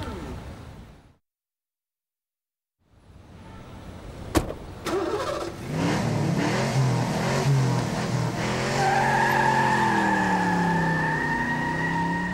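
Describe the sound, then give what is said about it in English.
After a brief silence, a door slams and a car engine starts, then revs hard with rising, whining pitch as tyres screech and a robber speeds away in the car with a stolen gold eagle, loud. “It's the gold robber. Come on, let's follow the car.”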